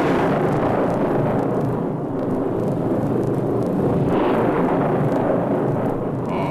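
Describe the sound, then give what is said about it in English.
A loud thunder crash sound effect for a lightning strike, played on WHAS radio, rolls out as a dense, steady rumbling roar that holds for several seconds without easing, with no voices over it. “And if we're not factual, may lightning strike.”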